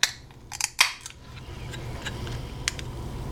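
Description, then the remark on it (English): A can of black cherry flavored drink: the tab clicks a few times, then pops open with one sharp snap, followed by a soft, steady fizzing hiss and a couple of faint later clicks. No one speaks. “Let's pop this top and see if we don't stop.”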